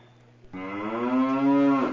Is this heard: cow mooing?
yes